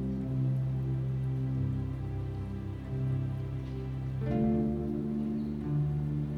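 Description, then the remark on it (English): Steady rain patters down as drops land on rocks, a soft continuous wash beneath gentle sustained musical tones, with no voices present. “And feel each raindrop as it gently lands on those rocks.”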